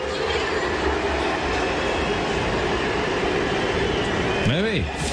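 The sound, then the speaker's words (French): A stadium crowd whistles in disapproval at a French football player during his farewell, a dense, steady wash of shrill whistling and roar that holds at a constant loud level throughout, with a few rising and falling tones near the end. “Alors, légende pour certains, traître pour l'autre, parce que hier soir, il a été parfois sifflé, parfois acclamé. Tiens, écoutez, petit extrait des sifflets.”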